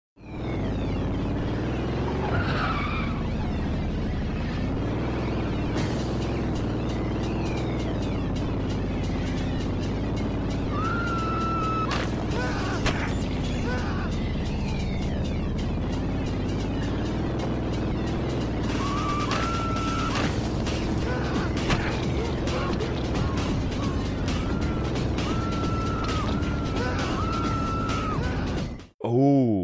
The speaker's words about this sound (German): Ich meine, es kann jetzt gut sein, dass ich was Falsches sage, aber da wir hier mit einem Auto, glaube ich, Leute umfahren, ist das sowas wie Carmageddon? Ja, das könnte Carmageddon sein. Es ist Carmageddon, ja? Es ist Carmageddon, aber Teil 2.